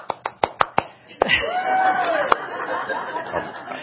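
One person claps six quick, evenly spaced times, sharp and fairly loud, before a sudden wash of louder mixed noise with a chuckle-like murmur takes over.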